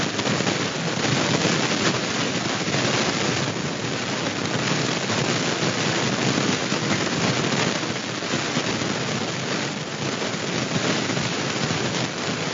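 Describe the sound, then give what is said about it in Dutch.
Rain patters steadily on a dome roof during a moment of silence at the Nieuwegein municipal council meeting of 7 November 2019. It is a dense, even hiss with faint crackling texture that holds at the same level throughout, with no voices. “In de stilte hoorde u de regen op de koepel.”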